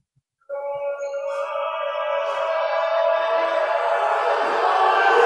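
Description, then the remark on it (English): The Warren crowd at a basketball game erupts suddenly after a brief silence as a fouled player goes to the free-throw line in the first half, its roar of yelling and whooping swelling steadily louder and holding at full volume to the end. “The Warren crowd gets loud, but Weinberg sinks the first shot.”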